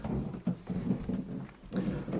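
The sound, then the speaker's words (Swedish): Wooden stairs and floorboards creak under slow footsteps of people climbing the stairs, a run of low groaning creaks and soft thuds in an uneven rhythm, with no voices. “Vi tar de här stegen upp. Man hör det knarrar i golvet.”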